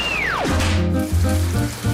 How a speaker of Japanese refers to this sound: 雨ここ最近ずっと降っているっすね。